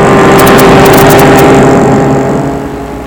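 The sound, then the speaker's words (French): A loud car engine roars steadily, then gradually fades as the car drives past and away while a man crosses the road. No one speaks. “Juste au moment, une voiture passe.”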